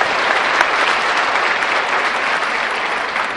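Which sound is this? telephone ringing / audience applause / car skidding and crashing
audience applause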